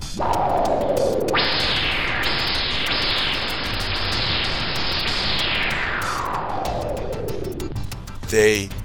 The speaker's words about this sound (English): The shadows begin to move forward, but are stopped as there is a tremendous whooshing sound.